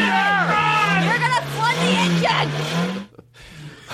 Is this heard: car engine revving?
yes